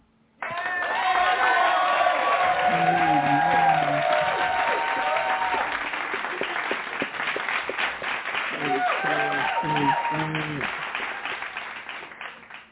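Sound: hand clap praise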